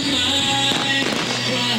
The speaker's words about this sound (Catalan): Efectivament, ara, de fons, hi ha aquest petit castell de focs.